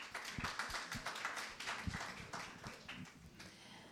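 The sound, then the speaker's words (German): A modest crowd claps for a few seconds in thanks to the helpers, sharp irregular handclaps overlapping into light, uneven applause, with no one talking. “Auf den, ja genau, kann man noch klatschen.”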